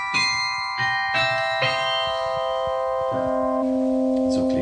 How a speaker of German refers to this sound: die besonderen Glockenspiele in Mechelen in Belgien